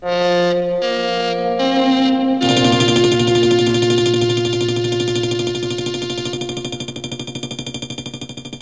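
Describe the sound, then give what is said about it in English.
A radio special-broadcast intro sting: three short electronic tones in quick succession, then a loud, sustained buzzing chord with a rapid pulsing flutter that eases off slightly toward the end. No one speaks. It led into special broadcasts such as Let's Find Out. “This is the sound that led into special broadcasts, such as Let's Find Out.”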